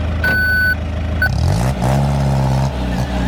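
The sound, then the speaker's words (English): A Brinks truck backing up: its reversing beeper sounds one long tone, then a brief second chirp, over the loud rumble of a heavy engine that grows and revs. “Solana, he said, back up the Brinks truck.”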